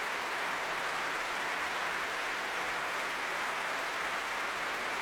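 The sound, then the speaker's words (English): Sustained applause from the Royal Albert Hall audience for conductor Barenboim and his orchestra, a dense, even wash of clapping that holds steady at a moderate level for the whole stretch, with no voices. “And finally, at last, turning to accept this huge applause for the Royal Albert Hall audience.”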